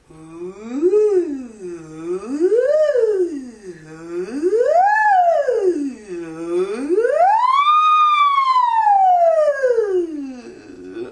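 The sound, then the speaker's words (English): A single voice sings four smooth siren-like glides as a vocal exercise, each rising and falling in pitch and climbing slightly higher every time, with the last one sweeping highest before sliding down. It is clear, with no background. “All right, the last siren-like exercise is the one where we go a little bit higher for four times.”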